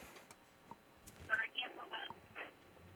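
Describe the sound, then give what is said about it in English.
A radio plays faintly in the background of a caller's cell phone line, its muffled, tinny voices drifting in and out over soft line hiss. “Just turn your radio off on the background.”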